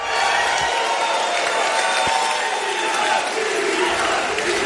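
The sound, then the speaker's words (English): A large crowd of Tesla shareholders cheers and applauds at the firm's annual meeting after approving a record-breaking pay package for boss Elon Musk, in a steady, loud roar of voices and clapping that fills the whole stretch without letting up. “The unprecedented deal drew huge applause at the firm's annual meeting overnight.”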